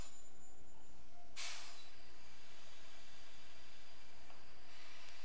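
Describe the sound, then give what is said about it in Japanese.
Steady rumbling train noise fills the interior of a train arriving at Nagano, its terminal station. It is broken by one sharp, loud burst of air hiss lasting about half a second, like brakes releasing as the train pulls into its final stop. “長野、長野、終着、長野です。お忘れ物のないよう、もう一度お手回り品をお確かめください。”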